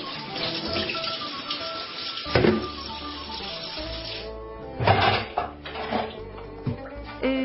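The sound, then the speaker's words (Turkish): Water runs steadily from a tap with a constant hiss while rice grains are washed and drained, swishing and rattling in a container, punctuated by a few louder clinks and splashes near the end. “Pirinçleri yıkayalım ve süzelim”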